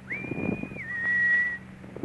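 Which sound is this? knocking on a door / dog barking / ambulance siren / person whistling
person whistling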